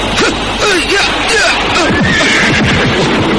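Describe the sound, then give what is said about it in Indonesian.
Horses pulling a horse-drawn carriage (delman) whinny repeatedly after suddenly stopping and refusing to move, amid a loud, crowded din, their wavering calls overlapping with clattering and general commotion. “Kuda-kuda itu, kenapa diam? Ada apa ini? Aneh. Kuda-kuda itu berhenti tiba-tiba.”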